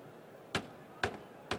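A keyboard on a table is struck three times as hard as possible by a person who walked up to it, each hit a sharp, loud bang about half a second apart, with a faint steady hiss in between and no talking.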